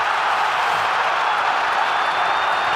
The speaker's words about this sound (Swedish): Så kommer hjälmen av på Tkachuk och publiken står upp och skriker i Bell Center.